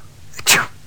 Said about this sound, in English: Bless you. No, thank you.